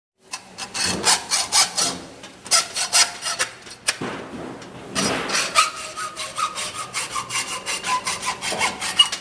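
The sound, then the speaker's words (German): Rhythmic hand sawing through wood in a workshop not far from the town hall, where young people are learning to saw. Steady back-and-forth strokes with rasping bursts, fairly loud, with a brief pause midway before the strokes resume. “Eine Werkstatt nicht weit vom Stadthaus entfernt. Ein paar Jugendliche lernen hier sägen, schweißen, löten.”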